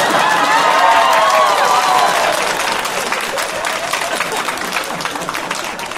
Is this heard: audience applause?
yes